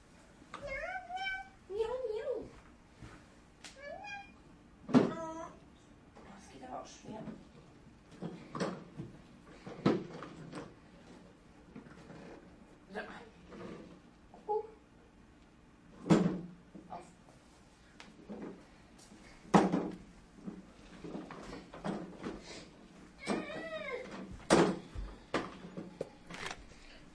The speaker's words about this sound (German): Ist da noch die Katze drin? Nee. Katze? Wo ist die? Nee, nein. Wo ist die Katze? Hol die mal da raus.